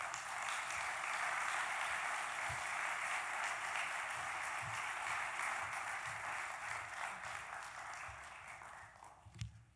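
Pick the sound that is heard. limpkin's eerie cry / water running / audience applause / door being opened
audience applause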